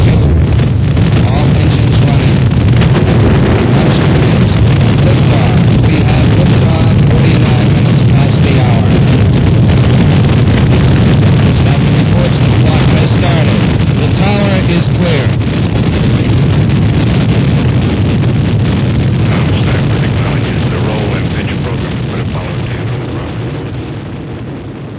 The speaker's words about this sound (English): We have ignition sequence start. Engines on 5, 4, 3.